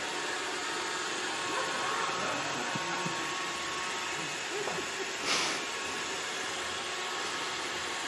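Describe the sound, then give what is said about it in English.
A vacuum cleaner in a living room, having started on its own, runs steadily with a broad, even whooshing roar, holding a constant level throughout with a brief swell partway through and no voices. “Exit stage left, pursued by a vacuum cleaner, which had clearly sprung into action.”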